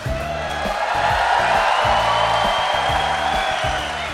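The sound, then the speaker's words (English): A patriotic, raucous live crowd at Kerner Hall at the TELUS Center for Performance and Learning in Toronto, Canada, cheers and whoops steadily over a pulsing musical beat, the roar sustained and loud for several seconds without any clear speech. “the Gabfest is live in front of a patriotic and raucous crowd at the Kerner Hall at the TELUS Center for Performance and Learning in Toronto.”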